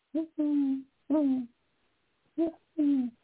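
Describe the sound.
An owl hoots in a rhythmic series of five deep, breathy calls, a short note leading into longer drawn-out hoots, fairly loud against a quiet background, in the evening outside a front door in Dana Point, California.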